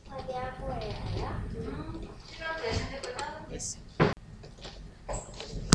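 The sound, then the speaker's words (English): A single sharp knock on a wooden door, as Little Red Riding Hood knocks in a story narration, rings out after a stretch of voices, followed by a softer tap near the end. “She knocked on the door.”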